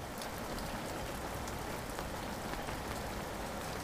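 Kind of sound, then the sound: nature, rain falling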